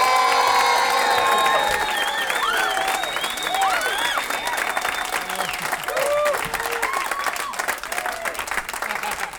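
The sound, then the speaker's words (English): An audience applauds loudly and steadily for the headlining comedian, with dense clapping joined by cheers and high whoops rising above it throughout, sustained for several seconds without letting up. “please slap your hand flesh together for your headliner”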